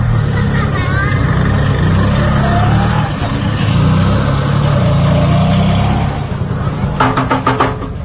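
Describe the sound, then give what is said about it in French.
A car engine rumbles steadily, then a quick burst of about five or six sharp slaps on the car's bodywork rings out near the end, standing in for a horn. “Il n'y a plus de klaxon en fait, donc il tape sur la carrosserie.”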